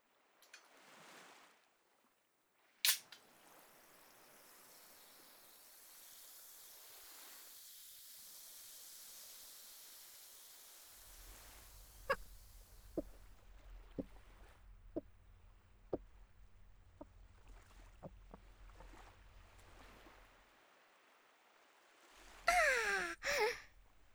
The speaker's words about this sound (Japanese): じゃあ今から炭酸水一気飲みしてあげるからね。